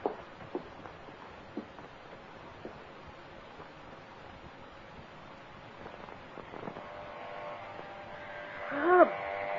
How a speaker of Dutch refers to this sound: Ja, ik word wakker door het scheerapparaat. Waarom maken ze die dingen niet met geluidsdempers erop?